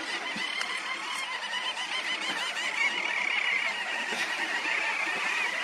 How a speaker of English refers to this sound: They're diving birds, and I mean, these flocks that we're seeing right now are in the thousands. Yeah. I mean, there's thousands of birds in the air.